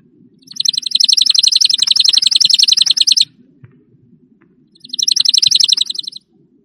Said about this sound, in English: Chipping Sparrow.